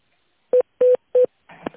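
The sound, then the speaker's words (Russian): Three short, steady electronic beeps from a phone keypad as an extension number is dialed on a call to the Vostok group of companies, evenly spaced, each a clear mid-pitched tone, followed by a brief burst of noisier sound as the line connects. “Пожалуйста, наберите внутренний номер абонента или дождитесь ответа оператора.”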